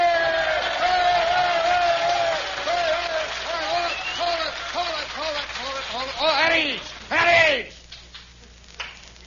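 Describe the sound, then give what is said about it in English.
A crowd of many voices yells together on cue, told to shout with real hate, in a loud, harsh, hostile roar of overlapping shouts, rising in a final swell before breaking off into scattered murmurs. “All together, gang. Let's hear it with real hate.”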